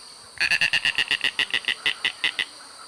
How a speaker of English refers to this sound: The next bird I have for you is the snail kite, Rostramus sociabilis.